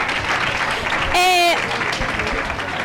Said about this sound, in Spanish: Sí, un fuerte aplauso